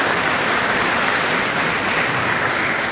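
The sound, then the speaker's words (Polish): A large audience at a Radio Maryja celebration applauds the fathers working at Radio Maryja, the many claps merging into a dense, steady roar that holds at an even, fairly loud level throughout, with no voices over it. “Brawa dla wszystkich ojców pracujących w Radiu Maryja i dla wszystkich panów, którzy obsługują dzisiejszą uroczystość.”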